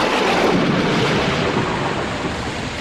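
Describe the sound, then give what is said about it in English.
A loud, steady roar of heavy rain with a deep rumble of thunder rolling underneath, filling the whole short stretch without any voices. “Meanwhile, back at the Indian encampment, the elders of the tribe were performing a ritual to bring rain.”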